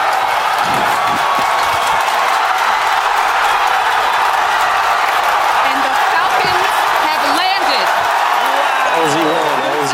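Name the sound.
crowd screaming and cheering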